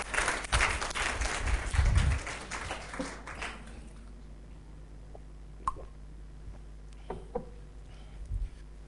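A burst of audience applause, dense and loud for the first few seconds, then thinning out and fading away, leaving a few scattered claps and soft knocks in a quiet background.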